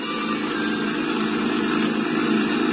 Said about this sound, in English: I rented a creaky old truck and headed for Barnesboro.